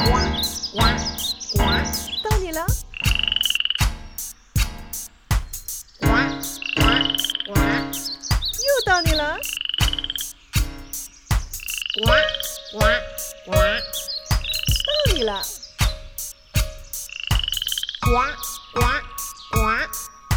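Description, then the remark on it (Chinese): A loud, dense chorus of frogs croaking in rapid, rhythmic pulses, with higher chirping calls mixed in, continuing steadily throughout with no pauses. “我们再来玩一次，像小青蛙一样跳跳跳，哇哇哇”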